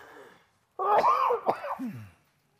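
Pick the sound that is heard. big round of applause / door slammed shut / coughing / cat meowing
coughing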